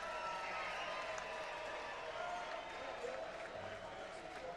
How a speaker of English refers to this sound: The crowd roars, and well they might. A high-energy show and a grand finale with most everybody who played today on the stage.